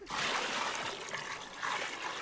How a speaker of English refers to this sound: The women fill a plastic tub with warm water and detergent.